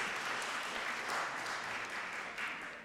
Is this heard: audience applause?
yes